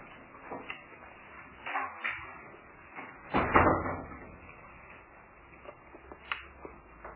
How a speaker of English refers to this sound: Could someone kindly close those two doors?